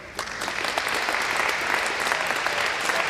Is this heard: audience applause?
yes